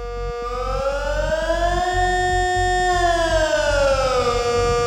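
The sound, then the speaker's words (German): A civil defense warning siren, used by authorities to alert people in disasters such as a nuclear power plant accident, a dam break or a chemical factory explosion, wails loudly and steadily, its tone slowly rising and falling in a long sweep, with no voices over it. “In solchen Katastrophenfällen informieren die Behörden mit dieser Sirene.”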